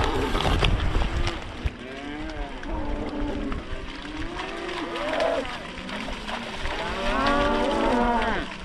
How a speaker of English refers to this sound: The end of a beach which is right next to the Montague campground, and just across the road is our Montague farm. We've got about 600 acres there, and that's where we'll leave the cows with the calves overnight